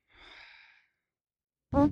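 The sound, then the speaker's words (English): A soft breathy exhale, then after a pause a sudden loud, buzzy blast of a mouth-made fart noise, low and rasping, which cuts off abruptly. “Whereas a lot of people have tried to make fart noises with their mouth, and you're better at that.”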